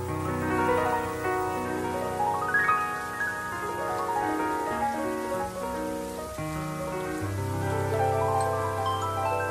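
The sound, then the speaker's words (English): Steady rain hisses down on a hard surface, with a sustained, gliding melodic tone layered over it and no talking. “It is raining, raining, raining in the neighborhood.”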